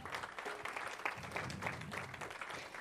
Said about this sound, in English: let's give her a round of applause again.